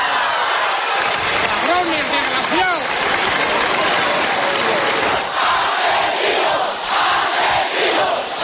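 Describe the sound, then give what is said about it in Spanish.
A large crowd in Ermua, Spain, roars and shouts in disappointment and rage as the mayor announces that Miguel Ángel has been murdered: a loud, sustained din, with individual voices rising in anguished, angry cries above the dense wall of sound throughout. “Ese grito de decepción y rabia fue la reacción de todo un país que salió a la calle para exigir paz y el fin de la violencia.”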